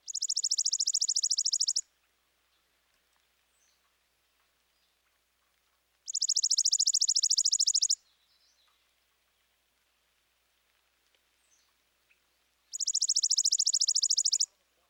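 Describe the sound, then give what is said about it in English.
A chipping sparrow sings three dry, mechanical trills, each a rapid, even run of high notes about two seconds long, separated by pauses of several seconds. The song is clear, with no voices. “Next, the mechanical dry trill of the chipping sparrow.”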